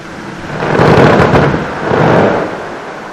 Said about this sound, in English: These sounds of breaking glaciers and the songs of leopard seals were recorded in Antarctica.